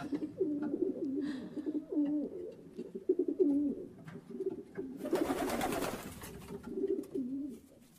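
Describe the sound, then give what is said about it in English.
Pigeons coo steadily, their low burbling calls overlapping in a continuous rhythm, with a brief burst of fluttering wings or rustling about midway through. “Any day now, expect pigeons.”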